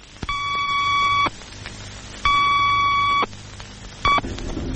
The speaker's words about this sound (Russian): За 4 секунды до взрыва начали подаваться предупредительные сигналы времени. Два длинных и короткий.